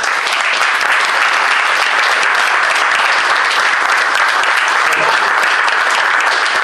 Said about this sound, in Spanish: porque pido un fuerte aplauso.